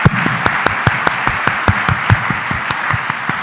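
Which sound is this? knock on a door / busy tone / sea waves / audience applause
audience applause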